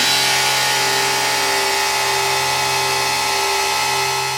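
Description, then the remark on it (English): A truck engine drones loudly, a steady low rumble with strong humming harmonics that holds at one level for the whole few seconds, with no voices over it; a truck following closely behind a woman's car, changing speed as she does. “She becomes nervous and decides to change speed, but as she did, so did this mysterious truck.”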